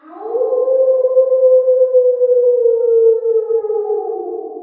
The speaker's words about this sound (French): D'ailleurs, écoutez, le loup entend hurler là-bas, dans le lointain. » Les brebis prêtèrent l'oreille. Elles entendirent en direction de la forêt les cris glaçants d'un loup qu'elles ne connaissaient que trop.